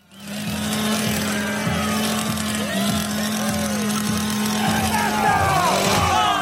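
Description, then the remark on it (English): A chainsaw, brandished by Argentina's leading presidential candidate on the campaign trail, drones at a steady, buzzy pitch for several seconds, with a busy wash of voices and crowd noise around it. “This was the moment Argentina's leading presidential candidate brandished a chainsaw while out on the campaign trail.”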